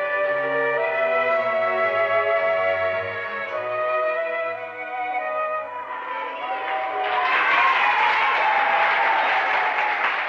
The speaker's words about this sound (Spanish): Fue don Bosco a visitar el colegio y habló a toda una multitud que aplaudía.